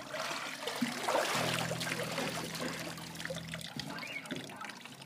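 Water sloshes and trickles in a tub as a body goes under, a steady watery rush with a low droning hum underneath, fairly close and continuous for several seconds.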